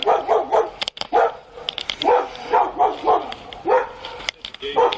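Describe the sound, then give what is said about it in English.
An angry chimpanzee screams in a rapid series of loud, harsh, high-pitched shrieks, each call rising and falling, coming in bursts with brief gaps and no talking over them. “Man, did you hear that? That chimpanzee is mad as fuck.”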